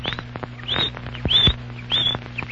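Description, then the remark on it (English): A canary named Chirpo chirps out the time, 3:05, in a quick series of bright, high, sweeping tweets, about four short bursts spaced fairly evenly, over a faint steady low hum. “It's not just an ordinary canary.”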